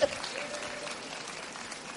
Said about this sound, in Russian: Кто-то аплодирует.